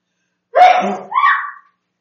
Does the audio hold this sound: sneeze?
yes